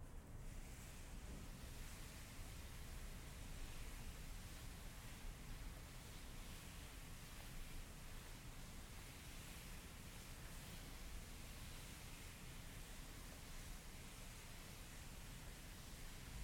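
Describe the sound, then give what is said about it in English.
Paper rubbed in slow circles by a group following a leader's pace, in unison, makes a steady, breathy whoosh that rises and falls gently in a soft repeating rhythm. It runs unbroken the whole time with no talking. “Try to follow my pace, and we'll just hear the sort of sweet, whooshy sound of paper.”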